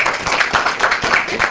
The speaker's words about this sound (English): Okay, so let's clap right now. And again.